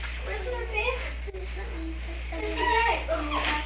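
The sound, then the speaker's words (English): A dog named Bonnie, wanting a cat, whimpers and yips in high, wavering whines, several short bursts over a constant low background hum. “No, no cats for dogs around here.”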